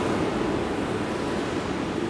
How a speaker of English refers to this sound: So, listen, where are we? What's going on? It's fall by the ocean.